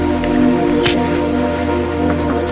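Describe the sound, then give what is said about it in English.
Paper burning in an ashtray, with soft irregular crackles and a brief flaring rustle partway through, over a steady low background hum. No one speaks. “sets fire to a piece of paper and places it in an ashtray.”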